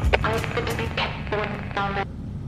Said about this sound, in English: I'm getting word that we are experiencing interference with walkies in the farthest reaches of the buildings.